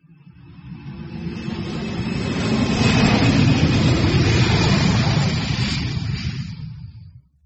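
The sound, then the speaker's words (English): An aeroplane passes overhead, its deep engine roar swelling steadily to a loud peak mid-way and then fading away, with no voices. “Ming can hear an aeroplane.”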